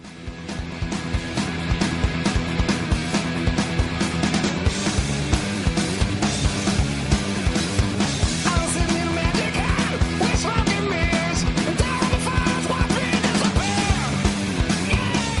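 Loud grunge rock plays throughout, with thick distorted guitars, pounding steady drums and a raw, shouted male vocal riding on top of the dense, driving wall of sound.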